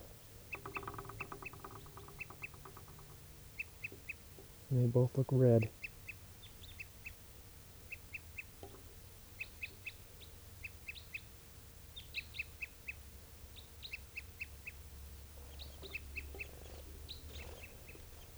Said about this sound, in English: There's tooping of a bird. I see two crossbills now.